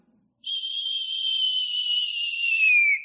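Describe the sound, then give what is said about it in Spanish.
A soft, gentle whistle imitating the gentle whisper heard by Elijah in the Bible: one steady, sustained high note held for a couple of seconds, sliding slightly downward at the end, heard alone. “Un silbo apacible.”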